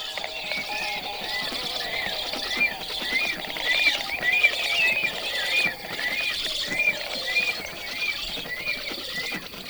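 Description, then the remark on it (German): A pair of storks calls without pause, trading high whistles and rasping, saw-like squeaks in a busy, steady stream of overlapping sounds with no voices. “Pfeifen, heisere Gesänge und ein Gequietsche, das an Sägegeräusche erinnert.”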